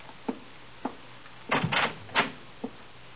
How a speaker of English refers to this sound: Come here, open this door.